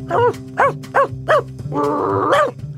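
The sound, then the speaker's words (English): A person imitates a dog barking: four quick, evenly spaced barks followed by a longer, drawn-out howling bark, fairly loud, with no other talk. “And although I don't currently own a dog, I do enjoy barking like one.”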